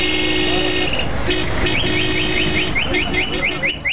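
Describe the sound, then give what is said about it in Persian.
Street traffic outside Zarnegar Park, with repeated car horn blasts, steady tones honking on and off over a dense, constant rumble of engines and road noise, with a few quick chirping sounds mixed in. “اما بیرون از پارک همان سر و صدا و همان هارن موترها.”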